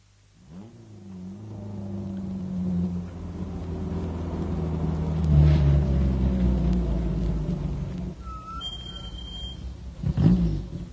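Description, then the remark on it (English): A car engine starts up and drives, low rumbling harmonics rising and falling as it accelerates, with a couple of sharp high tones near the end and a final thud. “Okay, I'll get the car.”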